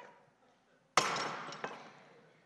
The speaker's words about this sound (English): They would have met the son out at the edge of the village, and they would have all, as they saw the son approaching, taken their pots and just dropped it and tried to shatter it. And I don't know why it didn't break today. Let's try it again.